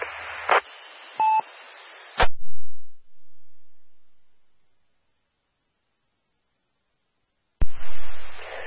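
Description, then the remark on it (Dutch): Radio static bursts in over an amateur radio link, followed by two short, steady beeping EchoLink connection tones and a sharp click. The line then goes silent for several seconds before another hiss of static returns. “gebruik vooral nu even EchoLink en dan luisteren we graag naar je”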